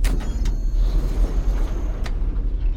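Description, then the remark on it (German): A door opens as people go through it, with a few sharp mechanical clicks and a brief whoosh over a steady low engine-like hum. There is no talking. “Sie gehen durch eine Tür.”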